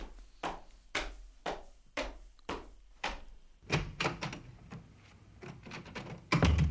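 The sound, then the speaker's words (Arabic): A steady series of about six firm knocks on the door of a friend's house, evenly spaced, followed by a busier stretch of thumps and rattling as the door is handled and pulled open, ending in a louder clunk. “افتح الباب يا نوفل، افتح، أنا ماجد. حاضر حاضر، أنا قادم.”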